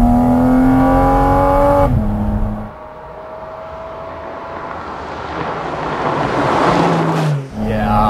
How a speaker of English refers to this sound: The driving experience with the sound and the intake right here behind your head. This is peak Cayman.